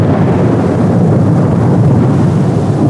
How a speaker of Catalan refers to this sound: Però amb això, que es va posar a ploure molt fort, molt fort.